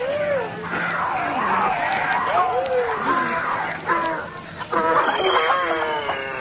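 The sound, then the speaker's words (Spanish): A noisy crowd of many kinds of animals calling at once as they enter the ark: overlapping bleats, brays and growling roars rise and fall continuously, loud, with a brief lull before a fresh burst of cries. “Y bien mucho que he obstruido al entrar el maga animal.”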